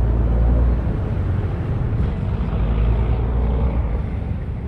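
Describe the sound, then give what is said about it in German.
A steady, heavy drone of ship engines in the harbor of Genoa, Italy, deep and continuous with a broad rumbling wash and no voices, on a cutting cold, windy day. “Der Wind ist schneidend kalt, die Luft erfüllt vom Dröhnen der Schiffsmotoren und vom Ruf der Möwen.”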